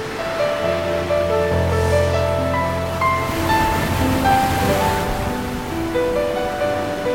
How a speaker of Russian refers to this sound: Ой, а какие волны!